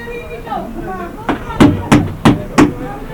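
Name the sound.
knocking on a door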